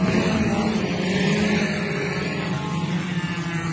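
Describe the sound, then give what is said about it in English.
A race car bearing the Lotus Eaters logo roars steadily during a race, a loud, continuous droning hum with a constant pitch and no pauses, dominant with no voices. “I remember asking during the YouTube days in Super Chat whether or not I could put the Lotus Eaters logo on my race car.”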